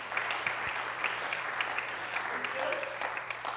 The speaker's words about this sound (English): Let's clap our hands. I think that's a good time to clap. Amen?